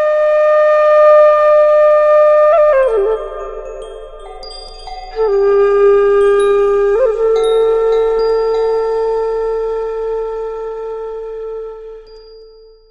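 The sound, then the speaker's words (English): A meditation gong rings out with a long, shimmering sustained tone, struck again a few times so the resonance swells and slowly fades, with no voices. “By this time the gong is probably rung, but you still go through the settling process, and you begin when you're ready to begin.”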